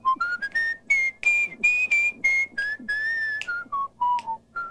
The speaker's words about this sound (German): auf den endlosen Konzertreisen zwischen Kansas und St. Louis das Pfeifen mit dem Gitarrenspiel kombiniert.